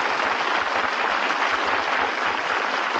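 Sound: studio audience applause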